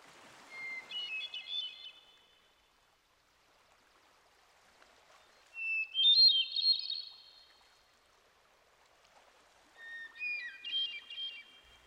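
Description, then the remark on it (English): Clear, flute-like song of a hermit thrush among towering trees in a forest, echoing: three separate phrases of pure, whistled notes, each a few seconds long with rising and shifting pitches, separated by pauses of near silence. No voices. “I hear a clear flute-like song. Can you pick that out? Isn't it beautiful how it echoes in these trees?”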